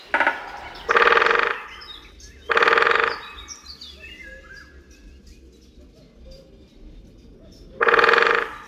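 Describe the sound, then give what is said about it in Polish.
A woodpecker drums on a metal lamppost in three loud, ringing bursts, each a rapid roll lasting under a second, with a gap between them. Faint birdsong chirps and trills sound in the background. “mamy szansę wsłuchiwać się i porównywać tak naprawdę, jak brzmi ten dzięcioł uderzający w latarnię. W porównaniu z dużym dzięciołem, który bębni już w drzewo.”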